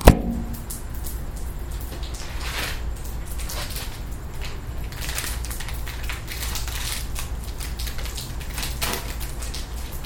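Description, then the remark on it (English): Water drips off a patio during a muggy rainstorm in scattered, irregular taps and splats over a steady low rumble and soft hiss of rain, with no one speaking. “Unfortunately, what you're really hearing is the water dripping off the patio.”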